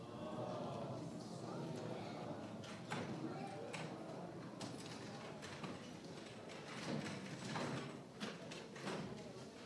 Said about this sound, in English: If we can just ask for the brothers to please help us out by moving the chairs and stacking them on the side.